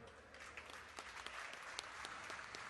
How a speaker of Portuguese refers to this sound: Pedimos, eu vou pedir duas salvas de palmas.